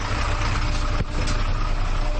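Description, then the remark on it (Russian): A heavy Ikarus city bus diesel engine roars loudly and steadily, with a brief dip around the middle as the revs drop during a gear change of its automatic gearbox, then the deep rumble resumes. “Оглушительный рев двигателя, что слышно особенно ранним утром, спадающие обороты при переключении автоматической коробки передач, а после – характерный столб черного дыма.”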